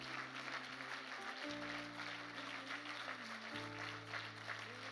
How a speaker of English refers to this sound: Certainly, let's give God a wonderful hand clap of praise.